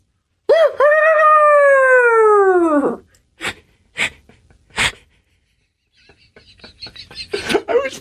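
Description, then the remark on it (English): A person imitates a rooster crowing with one loud, drawn-out, strained call that slowly falls in pitch, followed by a few sharp breathy puffs and some scattered noisy vocal sounds. “All right, do we got to do rooster stuff?”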